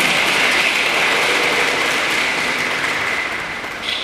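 Steady applause from a crowd at a prize-giving for nativity-scene (szopka) entries, a dense continuous patter of many hands clapping at an even loudness, easing slightly toward the end, with no voices.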